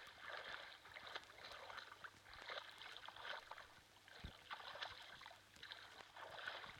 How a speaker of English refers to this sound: Stand in the middle of the river. Feel the water moving around you. Use the Force to divert the water around you.